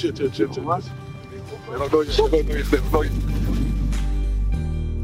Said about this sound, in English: Those were Dez's friends screaming as they got out of the car in front of his dad's house